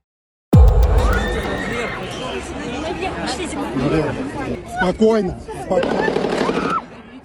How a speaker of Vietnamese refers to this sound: Khung cảnh hỗn loạn chìm trong những tiếng súng oan nghiệt. Tấn công vào nhà hát Crocus tối ngày 23 tháng 3, giết chết 137 người trong một buổi trình diễn của nhóm nhạc rock thời Liên Xô